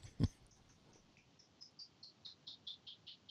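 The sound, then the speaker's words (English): A brief thump opens, then a bird chirps over and over, short high-pitched notes in a steady, even rhythm, growing slightly stronger, with no voices present. “I hear the birds, but I don't think they're that loud.”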